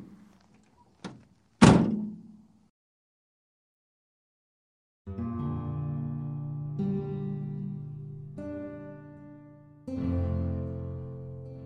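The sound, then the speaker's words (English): A door slams shut with one sharp, heavy bang right after a faint click, then a few seconds of silence before sustained musical chords fade in. “Doors shut.”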